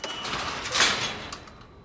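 At night, a door with a red satin dress hanging on it opens onto a doorstep by a soup tent, with a soft, airy swish that swells briefly in the middle and then fades, with a faint rattle near the end. Nobody speaks.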